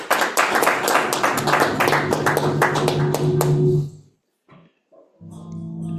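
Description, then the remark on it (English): An audience claps loudly and steadily for about four seconds, dense overlapping hand claps filling the room as a partner of the firm Smart Schofield Shorter is introduced, then it stops abruptly and, after a short pause, a person begins speaking. “Please just give him a huge round of applause.”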